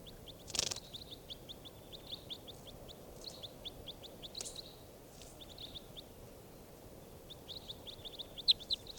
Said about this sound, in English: Recording bird 586.